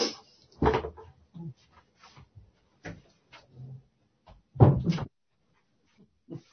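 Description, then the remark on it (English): A door opens and shuts with a few quiet clunks and rattles spread over several seconds, the loudest thump near the end, heard alone. “It might be Kate's door's opening. Yeah, you have to close the door.”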